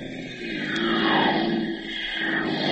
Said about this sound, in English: Those are automobiles pouring off the factory assembly lines.